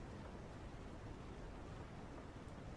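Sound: rain falling outside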